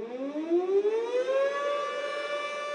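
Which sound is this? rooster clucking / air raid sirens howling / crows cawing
air raid sirens howling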